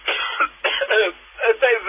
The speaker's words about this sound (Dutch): Ik moet even echt kuchelen.